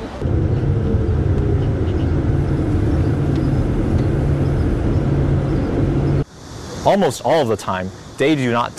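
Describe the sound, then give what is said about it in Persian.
A self-driving Volvo car, guided by a radar on its roof, drives along a road, signalling, turning, accelerating and braking on its own, with a steady, loud low rumble of engine and tire noise for several seconds; then the noise cuts away and a person begins speaking. “اتومبیل ولوو به صورت خودکار با کمک رادار متحرک روی سقفش حرکت می‌کند، راهنما می‌زند، می‌پیچد، سرعت می‌گیرد و ترمز می‌کند.”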